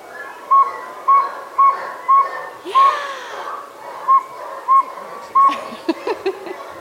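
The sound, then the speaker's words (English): People imitate a saw-whet owl with a steady series of short, high whistled toots about half a second apart, ending in a ragged cluster of overlapping toots over faint background noise. “Round of applause for all your owl calls.”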